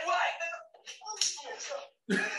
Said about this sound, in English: Full circle slap. We needed that because they were never getting her up the stairs.